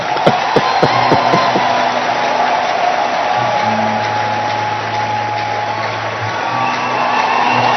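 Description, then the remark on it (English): An audience claps and cheers loudly in a dense, continuous roar, with a few sharp individual claps at the start and a low sustained tone humming underneath throughout. “Now, if you want to clap, you can clap.”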